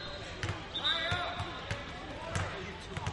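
A basketball bounces several times on a hard court floor during a game, an air ball bouncing out of bounds, the sharp thuds spaced unevenly against a busy gym background with chatter and a brief squeak.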